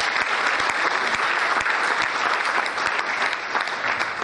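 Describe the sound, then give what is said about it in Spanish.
Sustained applause from a group for everyone who took part in a presentation, a dense, steady patter of many hands clapping at even loudness for several seconds, with no voices standing out. “Un aplauso a todos los que participaron.”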